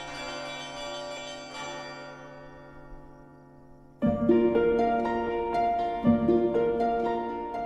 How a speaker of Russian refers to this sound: Далеко ли слышен звон нашего большого колокола? Да, еще как! До Крымского моста. Мы специально проверяли, ездили на машине и прислушивались. На улице Косыгина люди живут, так они летом, когда окна открыты, с благовестом нашим встают по утрам.